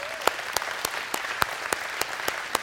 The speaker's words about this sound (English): Can we give a round of applause for the moms in the room?